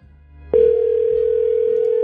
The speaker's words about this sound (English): Whoops, here we go. It's ringing. Good news so far.